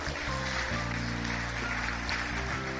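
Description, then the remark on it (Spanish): A crowd applauds for the King in a dense, steady wash of clapping that fills the whole stretch, with sustained low organ-like chords humming underneath. No one speaks. “Dale el aplauso al Rey.”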